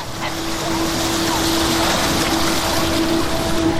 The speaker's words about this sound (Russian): Мне так нравится, что вода поднимается сюда. Как будто она злится.